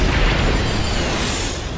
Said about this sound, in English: I know that sound. Those are Mark 7 inversion thrusters.